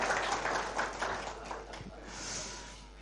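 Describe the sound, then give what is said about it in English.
A brief burst of audience applause, a dense patter of many hands clapping that is fairly strong at first and then thins and fades over about three seconds. “Well, I think if someone got a round of applause for the earlier notices, I should get a round of applause for those names.”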